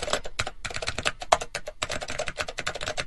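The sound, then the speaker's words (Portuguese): Rapid keyboard typing sound effect, used while searching the internet for the synopsis of the film Fast & Furious, a dense stream of sharp clicking keystrokes with brief pauses, fairly loud, with no voices. “Efeito de teclado.”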